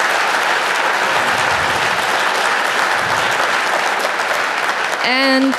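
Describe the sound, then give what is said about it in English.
A large audience applauds the speakers at the end of a session of lightning talks, a dense wash of steady clapping for about five seconds before a voice begins to speak over its tail. “Let's thank all our speakers again for walking up here and presenting their ideas and projects.”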